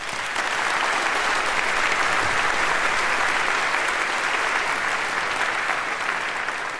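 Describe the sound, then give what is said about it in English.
A sustained round of audience applause welcoming speakers to a talk on writing drivers in high-level languages, steady and fairly loud throughout, a dense wash of many hands clapping with no individual claps standing out and no voices on top. “Warm round of applause, please.”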